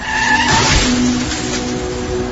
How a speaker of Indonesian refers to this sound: duh, kok ini mobil di depan ngerem mendadak gitu sih?